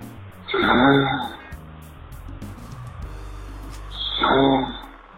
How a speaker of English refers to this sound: It sounds like she's snoring.